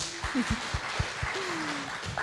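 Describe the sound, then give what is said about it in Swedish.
A church audience applauds a woman who took the picture, a steady, dense patter of many hands clapping, moderately loud throughout, with a few faint voices and low thumps mixed in. “En applåd för henne.”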